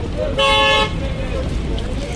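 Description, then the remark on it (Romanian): A car horn blares for about half a second over a steady rumble of city traffic, with engines droning and a faint murmur of activity continuing after the honk. “Dacă ar fi să ne referim doar la trafic, într-un fel suna o înregistrare în centrul capitalei acum 25 de ani, când în București nu existau atât de multe mașini, și în alt fel astăzi cu aproape 1 milion de autoturisme.”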